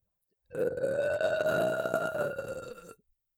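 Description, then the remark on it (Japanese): A long, loud burp rumbles out for about two and a half seconds, a steady throaty belch that tapers off at the end, with no talking over it; a person burping after eating extra-garlic ramen. “ゲップ、漏れちゃいました。”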